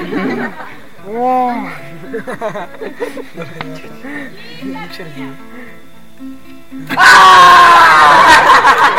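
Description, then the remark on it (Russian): A person imitates a wild seagull's cry with swooping, warbling vocal squawks, then bursts into a loud, shrill, sustained screech. “Крик дикой чайки. Крик дикой чайки.”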